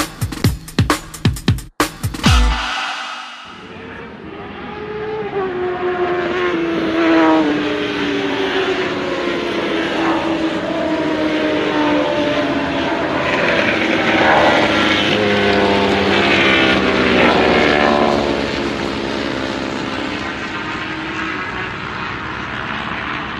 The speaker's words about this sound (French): tout ça pour voir des motos passer tous les 5 minutes.